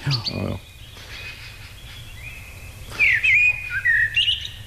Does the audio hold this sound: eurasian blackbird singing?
yes